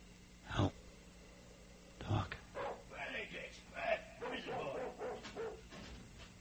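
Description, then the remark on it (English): A dog gives two loud, sharp barks about a second and a half apart, followed by a stretch of softer, continuous muffled vocal sounds. “Dogs. That can complicate matters.”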